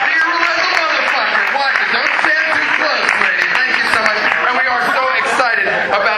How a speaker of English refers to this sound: and if I could maneuver you for some cheap applause here at the beginning of the show all here tonight, me and my wife are 6 months pregnant. Thank you very much.